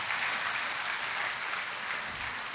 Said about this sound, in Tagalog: Isa pang palakpak para sa ating Panginoon Diyos sa buhay.